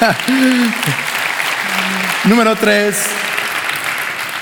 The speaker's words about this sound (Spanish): Si vas a aplaudir, hazlo con más ganas.